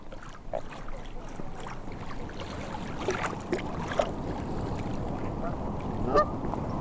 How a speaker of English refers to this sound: I can hear the swans and the splash of water.